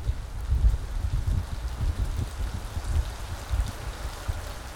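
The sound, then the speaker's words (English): Heavy rain pours down steadily on a street, a dense, continuous hiss with a deep low rumble of water striking surfaces. No voices, just the unbroken downpour. “You are left alone there, standing on the street, not a soul around you, when finally the sky cracks and it begins to pour.”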